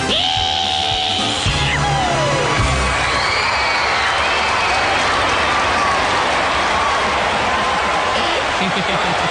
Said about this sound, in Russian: Спасибо. Спасибо, мои дорогие. Спасибо за вашу щедрость, за ваши аплодисменты. За то, что вы цените своих актеров.